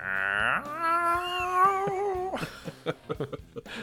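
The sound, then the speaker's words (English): A person imitates a cat's caterwaul, the sound a cat makes sitting outside a shut door, holding a long, wavering, high-pitched yowl for nearly two seconds. It is followed by several short, choppy vocal bursts. “It just sits outside the door and it doesn't just meow. It kind of makes this sound that's like.”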